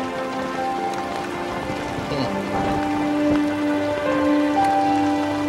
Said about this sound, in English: Well, it had better stop raining then, hadn't it?